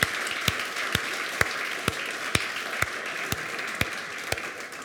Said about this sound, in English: Can I just see some hands here? One, two, three in the back. Can we give a loud applause here for these three people?